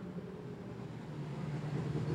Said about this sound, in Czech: už slyším, že tady v zatáčce burácí auto, momentík.